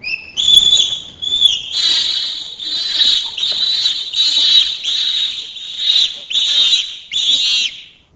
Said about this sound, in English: In example 18, peep yelps develop into screams.